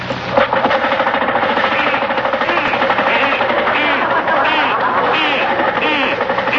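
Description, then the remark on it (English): A car engine, started up again after being worked on with a hammer, runs rough and loud, with a rapid, uneven knocking clatter that continues steadily for the whole stretch without letting up. “Yeah, start it up again.”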